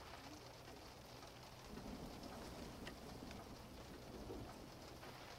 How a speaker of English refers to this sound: It's the rain, Leo. It's going to stop very soon. Oh, but the weather report said it was going to rain for days. No. It will stop soon.